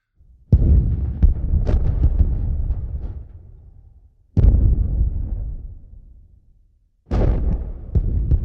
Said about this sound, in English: No, this is in the Carolina coast. It's what they call it's a phantom sounds that sound like guns. If you want to hear, here is an actual clip of the Seneca guns. Let's give that a listen here.